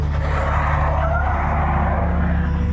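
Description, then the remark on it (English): A compact car skids on black ice, its back end starting to spin out, tires hissing and squealing briefly over a steady, loud engine rumble. The noise is continuous for a few seconds, with no voices. “The compact car began to slide as soon as it hit the ice. Its back end started to spin out.”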